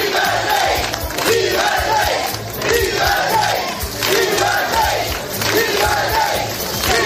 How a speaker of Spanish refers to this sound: el rey llegaba a media mañana al Club Náutico para participar en la jornada de regatas. Allí, apostado ante las cámaras mientras recibía esta ovación.